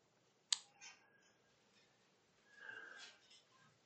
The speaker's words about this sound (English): Giving it a little time to get there, although they were up on the screen. I like to hear the pages turn.